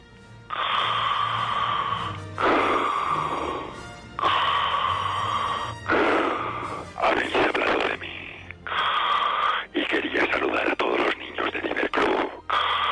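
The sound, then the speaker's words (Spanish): Heavy, wheezing Darth Vader-style breaths repeat steadily, about seven or eight loud, raspy inhales and exhales, each lasting a second or two with brief pauses between, with no talking over them. “Oye, pero esa respiración me suena. Tú estás mal del asma o algo así.”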